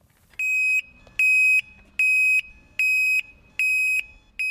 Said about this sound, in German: Sie sind alle mit einer Alarmanlage ausgerüstet und die macht sich bemerkbar, wenn ihnen jemand zu nahe kommt.